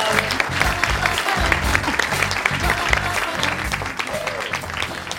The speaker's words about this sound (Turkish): ben ve kendisini alkışlarla uğurluyoruz.